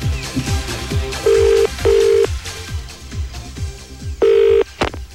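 A telephone rings on a prank call to a cab firm, in three short, steady tones, two close together and a third after a pause, over a rhythmic thumping beat. No one speaks.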